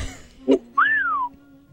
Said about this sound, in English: Just keep whistling.